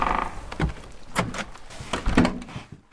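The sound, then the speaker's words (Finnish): A door is opened as people go inside, with a few sharp mechanical clunks and rattles spread over a couple of seconds, followed by a brief scraping creak as it moves. “Käydäänkö sisällä katsomassa, että mitä on löytynyt? Joo, katsotaan siellä. No niin, se on siinä sitten. Mä menen ovi.”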